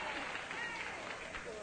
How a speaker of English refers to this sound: I believe the entire board of directors of Digel are in the audience. They're applauding your every move.